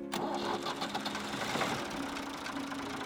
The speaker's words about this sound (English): You see that tractor he's driving? Soon it'll be a self-driving tractor.